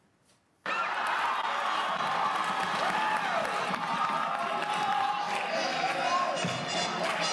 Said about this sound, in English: and here we'll see the audience applauding and then returning to this kind of choral clapping